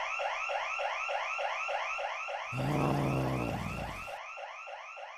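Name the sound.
alarm going off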